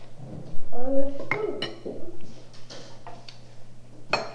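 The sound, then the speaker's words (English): A spoon clinks against dishes at a table in a few sharp, bright taps spread unevenly over several seconds, with a voice murmuring in between and a steady low hum underneath. “One spoon.”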